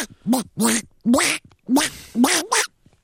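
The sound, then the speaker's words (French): A duck call blows a quick run of about six loud, nasal quacks, evenly paced, with no talking around them, as someone calls ducks for hunting. “Non, c'est le canard. Je suis en train d'appeler le canard.”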